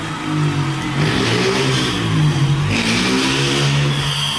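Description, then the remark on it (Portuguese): A motorcycle engine revs loudly outside, its pitch rising and falling in a couple of surges over a steady rumble, with no voices in between. “Nossa, que raiva eu tenho dessas motos, velho.”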